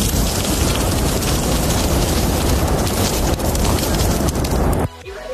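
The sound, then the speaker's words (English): Sausages sizzling on a barbecue: a loud, steady crackling hiss with dense popping spatters, running unbroken for nearly five seconds before cutting off abruptly into near quiet. “Can you correctly identify what is on the barbecue?”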